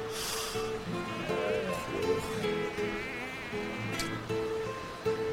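A mosquito whines steadily throughout, its thin buzzing pitch wavering slightly as it hovers, with a few soft rustles and clicks in the background.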